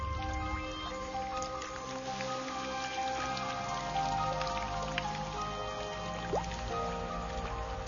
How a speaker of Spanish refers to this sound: El clima cambia a finales de mayo. Las brisas marinas traen aire húmedo del Caribe. Finalmente, la lluvia está de regreso.